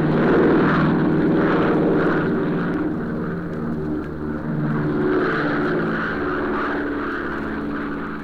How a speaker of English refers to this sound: Big plane neared the end of a cross-country flight.